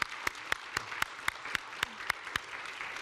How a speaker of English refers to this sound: Why don't you give them a round of applause? Thank you.